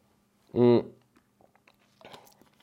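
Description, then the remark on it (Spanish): Someone takes a quick sip of cough syrup: a brief voiced throat sound, then faint wet mouth clicks and a soft gulp-like rustle near the end. “Nada más déjenme y le tomo el traguito al jarabe, porque si no va a traer una tosedera que no me va a dejar hablar.”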